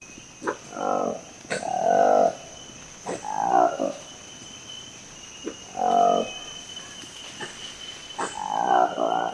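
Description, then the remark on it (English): A Lekwele monkey, a newly discovered colobus species with peach-coloured lips and a black fluffy coat, gives a series of deep, throaty roaring calls, five or six loud rasping bursts in an irregular rhythm, over a steady insect hum in the background. “The roar of the Lekwele monkey, an elusive character with peach-coloured lips and a black fluffy coat.”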